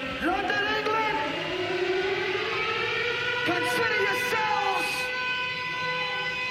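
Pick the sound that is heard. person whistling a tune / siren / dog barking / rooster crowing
siren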